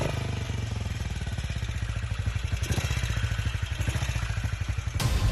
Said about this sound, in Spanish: Durante los años 60 y 70, era habitual que la Guardia Civil de Tráfico se cruzara con nosotros por las carreteras montando en unas motocicletas que llevaban la marca Sunglass. Así suena su motor.